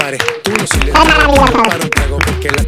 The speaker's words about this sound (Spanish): Un aplauso. Bravo. Muchas gracias.